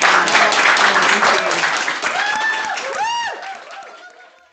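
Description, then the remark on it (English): A crowd claps for Liz Winstead in a dense burst of applause that slowly thins and fades, with rising and falling whistle-like tones sweeping through the second half. “Well, with that, Liz Winstead, everybody, round of applause.”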